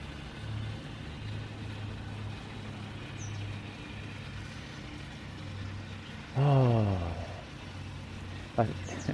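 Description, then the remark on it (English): A lawnmower (grass cutter) engine drones low and steady throughout as a soft wind blows, its hum wavering slightly in pitch. Near the end a brief louder descending call cuts in, followed by a short sharp burst. “Oh, that wind, so soft, and it's blowing the acoustics of the lawnmower, the grass cutter.”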